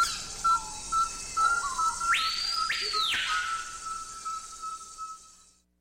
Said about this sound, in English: Listen for the delicate call of the musician wren. Bird Note invites you to sit back and enjoy the sounds of the Amazon.